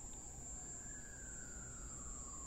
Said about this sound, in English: An ambulance?